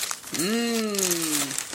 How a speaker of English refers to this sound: I got two gifts. You did. My God, I'm spoiled and I feel guilty. What? Oh, that's a good wrapping paper sound. Mm-hmm. Oh, it's a calendar.